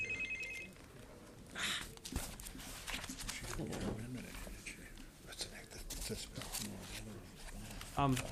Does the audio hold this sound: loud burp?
no